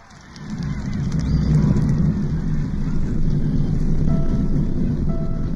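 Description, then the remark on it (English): A deep, continuous roar from the Saturn V rocket launch of the Apollo 11 mission swells in within the first half second and holds steady and loud, a dense low rumble with crackling texture and no voices. “We have a go for main engine start.”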